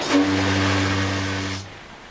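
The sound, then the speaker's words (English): The Lusitania's ship's whistle blows one deep, steady blast with a rough, hissing edge over her grave. It holds for about a second and a half, then cuts off and fades quickly. “The whistle of the Lusitania sounds over her grave.”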